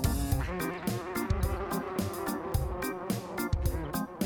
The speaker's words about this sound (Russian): Цыц, цыц, муха, не жужжи, кыш, кыш, муха, не кружи.